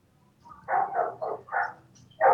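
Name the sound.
dogs barking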